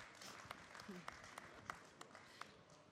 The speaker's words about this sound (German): Ein Applaus